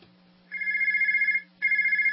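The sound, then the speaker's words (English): A telephone rings twice in a warbling electronic trill, each ring about a second long with a brief pause between. It is loud, with no voices. “If you're in a service business, that's money ringing in your ears. If your phone's not ringing, chances are it's a problem with your marketing.”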